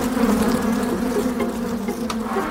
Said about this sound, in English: So we decided to throw a stone at the beehive and see if we could disturb the bees.